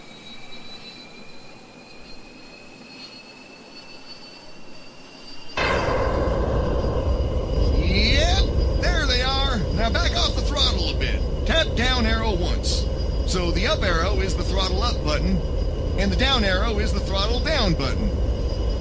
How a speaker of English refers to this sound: They increase the forward motion of your aircraft and allow you to go a lot faster than Mach 1. What I want you to do now is throttle up until you hear those afterburners come on. Remember, throttle up to full forward.